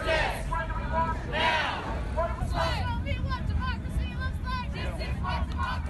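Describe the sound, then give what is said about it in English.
A large protest crowd in the streets of Los Angeles, protesting the death of George Floyd, many voices shouting and chanting together in bursts over a steady low rumble of street noise, with no single voice standing out. “Those are the sounds of protests over the last week and a half all over Los Angeles and surrounding areas, from Hollywood to Compton to downtown LA to the West Side.”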